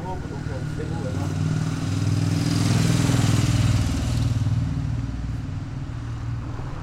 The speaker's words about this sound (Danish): De unge kører rundt på busstationen på deres knallerter